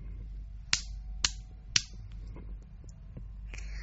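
Three sharp, evenly spaced slaps ring out, followed by several softer taps, as hands smack thighs in a quick rhythmic pattern during a clapping dance on a livestream, with no talking.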